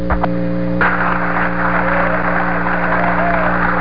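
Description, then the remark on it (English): Loud, sustained applause from a large crowd as Apollo 13 is shown on its main parachutes on a television display fills the whole recording, a dense, steady wash of clapping over a faint low hum, with no break or fade. “An extremely loud applause as Apollo 13 on main shoots comes through loud and clear on the television display here.”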